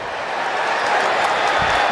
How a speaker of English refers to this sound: And you're going to hear this crowd go crazy with the call from John Hockley.